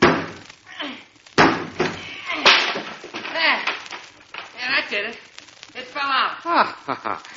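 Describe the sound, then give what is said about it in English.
A sawn piece of wood from around the doorknob is knocked out of a bathroom door with a couple of sharp, loud cracking thumps, followed by people talking over faint shuffling. “Now, just see if you can knock that piece out, will you? What piece? The piece of wood around the doorknob that I just sawed.”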